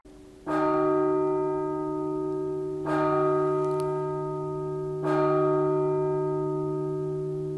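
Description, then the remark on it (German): Bronze carillon bells of the Bergfried carillon in Saalfeld, the oldest bronze carillon in Germany, ring out at a first Advent concert in three slow, evenly spaced strikes, each loud, clear tone humming on and overlapping the next, with no voices. “Heute erklingt das älteste Bronze-Carillon Deutschlands zum ersten Adventskonzert und es erklingen nationale und internationale Weihnachtslieder”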